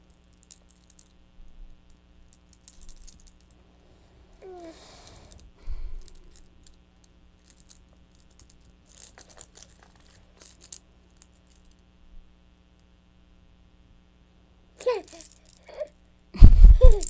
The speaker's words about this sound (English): Keys.